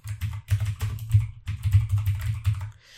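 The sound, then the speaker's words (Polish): Rapid, steady computer keyboard typing, a dense run of clicking keystrokes in two bursts with a brief pause between them, no voices present, as an encrypted email message is written. “Teraz, kiedy klikamy opcję Write i wybierzemy nasz drugi mail, który posiada klucz, od razu załączyła nam się taka malutka kłódka i możemy sobie teraz napisać szyfrowaną wiadomość.”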